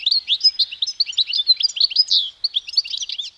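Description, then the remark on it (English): Song of the European goldfinch, a tiny bird: a rapid, continuous stream of high, twittering chirps and liquid trills, bright and tinkling, with no voices present. “The source of Vivaldi's inspiration? The European goldfinch. It's a tiny bird found throughout much of Europe, where it frequents gardens and roadsides.”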